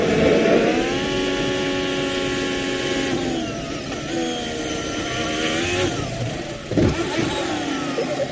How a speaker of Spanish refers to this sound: No le ha pasado nada, ¿eh? Pero así ha sido el momento en el que ha estrellado su coche en la curva Ascari.